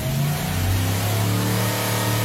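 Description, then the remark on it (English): A tuned car engine revs loudly and steadily, its deep harmonic growl rising slightly in pitch and holding strong for a couple of seconds with no talking. “To come and have your engine rebuilt and tuned with Advanced Engine Dynamics, or not to have it done, you be the judge.”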